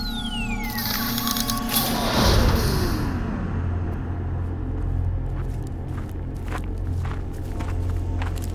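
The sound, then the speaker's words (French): Spacecraft doors opened by the onboard computer during pressurization, with a hissing, descending electronic whine that sweeps from high to low, then settle into a steady low mechanical hum dotted with faint clicks. “Ordinateur de bord, ouverture des portes.”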